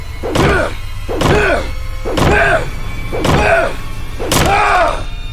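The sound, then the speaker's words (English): A bat pounds violently on a hotel door, five loud, heavy blows landing in a steady rhythm about a second apart, each with a booming, resonant ring that fades before the next strike. “watching Ace bang violently on the door with his bat”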